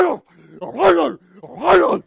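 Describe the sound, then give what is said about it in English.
A man's voice imitates a snarling next-door dog coming to the fence, with two loud, rasping growl-like bursts, each rising and falling, separated by a short pause, prominent. “It's like that guy's got the demon-possessed dog next door. You know, comes to the fence.”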